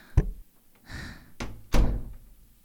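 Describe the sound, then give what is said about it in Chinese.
A door is knocked on with a few heavy, spaced thumps by someone who forgot their key, then its latch rattles and it swings open with a solid clunk, fairly loud, with no voices. “你怎么才开门呀？”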